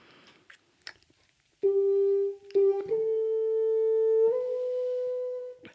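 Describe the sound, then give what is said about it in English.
A few soft clicks and rustles, then an instrument fitted with a big black practice mute, not meant for orchestral use, plays four sustained, muffled notes in a slow legato line, steady and moderately loud, with no talking. “I must tell you, I'm putting in a big black practice mute, which is actually not meant for orchestral use, but it turns it into this.”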